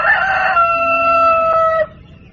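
A rooster crows once, a loud cock-a-doodle-doo with strained harmonic tones held for nearly two seconds before cutting off.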